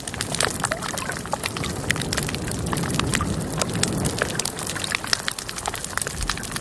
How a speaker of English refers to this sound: a recording that was made underwater in October 1995 at a reef about 400 yards long. This part of the coral reef was quite alive, and you can hear many types of fish, damselfish, clown parrot, pufferfish, cardinals, goat, butterfly fish. Here's that.